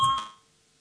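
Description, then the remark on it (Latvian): A single short bell tone in parliament calls a vote on a justice minister's proposal, a clear electronic ring that fades quickly into near silence with no voices. “Lūdzu zvanu, balsosim par 20. Tieslietu ministra Bordāna priekšlikumu.”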